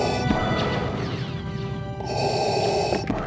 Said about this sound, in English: And you also know what Darth Vader's breathing sounds like.